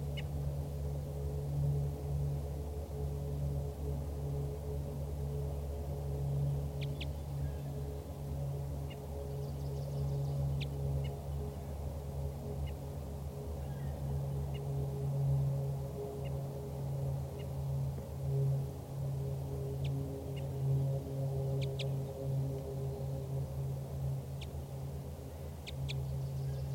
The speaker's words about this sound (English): Start recording again, that wild bird is giving flight calls and toops.